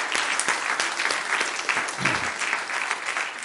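A room full of people applauds steadily, the dense clapping sustained and fairly close throughout, with no pauses or talking standing out above it.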